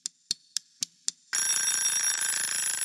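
A timer winds down with five quick, evenly spaced ticks, then a bright mechanical bell rings loudly and continuously, signalling that five minutes are up, a sustained metallic clatter filling the rest of the moment.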